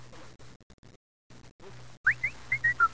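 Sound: person whistling a tune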